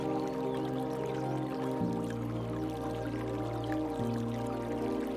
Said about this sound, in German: Der weiche, etwas rutschige Boden lässt sich als eine saftige Wiese erahnen und ein leises Plätschern verrät uns, dass ein kleiner Bach nicht weit sein kann.